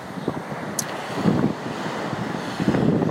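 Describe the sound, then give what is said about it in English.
Steady roar of ocean surf with waves washing in and breaking, swelling louder in a couple of surges, mixed with gusty wind rumble across the microphone; no voices. “and I apologize for these breaking waves. I'm not sure how loud they're going to be on the recording.”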